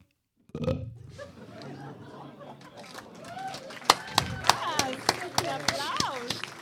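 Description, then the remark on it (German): A bottle genie gives a loud, low, drawn-out burp, then it gives way to squeaky vocal chirps punctuated by a string of sharp clicks and taps. “Der Flaschengeist rülpst.”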